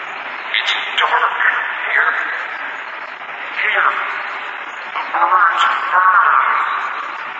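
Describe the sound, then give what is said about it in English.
A steady wash of radio static hisses throughout, with warbling, garbled voice-like tones drifting in and out beneath the crackle, moderately loud and continuous. “And then a voice rose out of the static, cold and dead, but very determined to be heard.”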